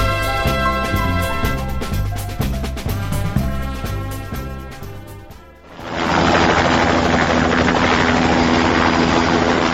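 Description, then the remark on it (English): Rhythmic music plays for about five seconds, then cuts abruptly to the loud, steady roar of an air rescue service helicopter's rotor and engine overhead, continuing without a break to the end. “The rescuer is carrying a radio with which he keeps contact with the helicopter.”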